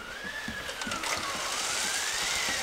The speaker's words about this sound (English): Okay, good. So let's start with a little bit of wind. Then add in some rain.